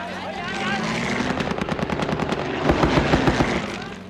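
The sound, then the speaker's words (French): Rapid bursts of machine-gun fire from a low-flying, slow World War II-era A-1 attack aircraft bombing and strafing a camp at Lang Ve three times, a fast rattling stream of shots over a steady engine roar, growing louder and denser partway through. “L'avion bombarde et mitraille le camp à 3 reprises.”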